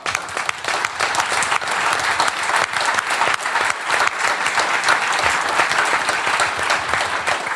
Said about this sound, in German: Das ist, glaube ich, auch ein Applaus wert, ja.